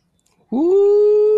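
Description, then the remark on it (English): A single loud dog howl swoops upward in pitch, then holds a steady, drawn-out whining tone, with no other sounds around it. “Ooh, doggy.”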